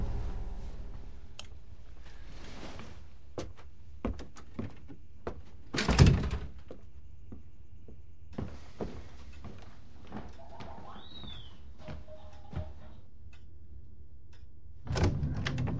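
A quiet stretch of small clicks and creaks, then the door to a baby's room is handled and swings open with a loud thunk, followed by more soft knocks and rustling before a second heavier bump at the end.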